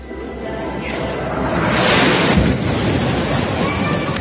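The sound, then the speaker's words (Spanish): Bomb explosions heard from inside the Holy Family Catholic parish church in the heart of the Strip: a deep, rumbling boom swells and rolls through the church, with a broad roaring wash that builds around the middle and then lingers as a dull, reverberant rumble. “Así se escuchan las explosiones desde el interior de la iglesia de la Sagrada Familia, una parroquia católica ubicada en el corazón de la franja.”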